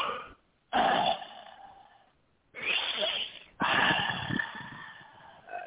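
Heavy breathing blasts right into a phone microphone, four loud, rough gusts of muffled, distorted air noise separated by brief silences, with no talking.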